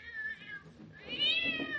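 cat meowing

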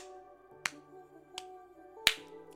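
hand clapping

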